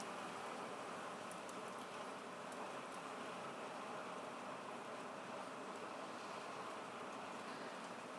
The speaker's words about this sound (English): Hailstorm full of grace. Full of ice. Full of ice.